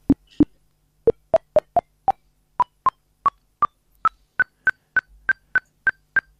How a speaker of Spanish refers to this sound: Es un bip bip, nada o muy armónico, pero así suena la luna, Mado. Sí, bueno, es que esto es una sonorización directa del espectro lunar. Este sonido fue obtenido por Rafael Balaguer, es un amigo mío, astrónomo